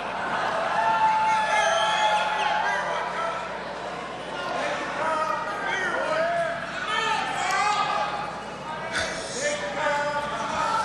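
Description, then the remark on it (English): A large crowd in Ellicott Square cheers and shouts, many voices blending into a loud, steady roar that holds for about eleven seconds, with scattered higher-pitched yells rising above it. “I don't think we've ever had a crowd this big in Ellicott Square.”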